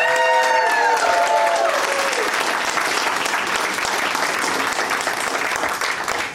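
Loud, sustained clapping from an audience for a contestant fills the whole stretch, a dense steady patter of many hands, with a brief sung or whooping tone over it in the first couple of seconds.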